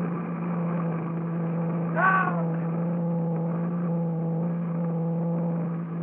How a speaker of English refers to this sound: Her magnetium hull white hot from the friction of the atmosphere. Her jet brakes belching fire. She's right over the field now. She's coming down. Down!